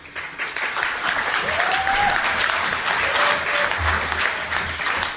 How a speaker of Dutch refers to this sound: Dat is een terecht applaus, want het was een leuk debat.